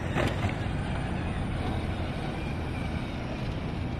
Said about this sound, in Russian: А это были звуки рободоставки. Дело в том, что Эстония — это первая страна в Европе, которая разрешила на законодательном уровне ездить беспилотником, беспилотным роботом по тротуарам. Они развозят еду.